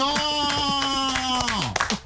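Steady rhythmic clapping, roughly three claps a second, runs under a loud sustained voice-like tone that holds one pitch, then slides down near the end. The applause is for a participant who has just spoken.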